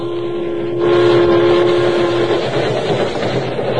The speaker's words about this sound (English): Here come train now.